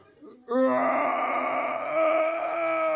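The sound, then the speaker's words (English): A voice imitates a bear roaring while giving birth: one long, loud, strained groaning wail held for about two and a half seconds, with no other sound. “Pushing in, we hear the roars of a bear giving birth.”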